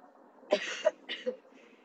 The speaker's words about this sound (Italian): Il colpo di tosse.